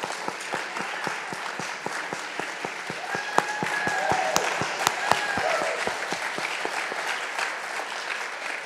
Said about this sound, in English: So we can just give a round of applause.